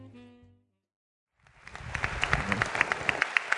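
A crowd breaks into applause for a speaker coming up to teach, after a brief silence. The clapping swells quickly into a steady, dense patter of many hands, with sharp individual claps popping through.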